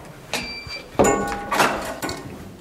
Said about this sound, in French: On va passer un sas. Oui, on passe une porte, voilà.